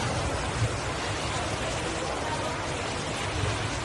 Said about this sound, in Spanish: Es sonido del interior del aeropuerto de Ibiza, en concreto de una de las de los puntos donde están las cintas donde se recogen las maletas.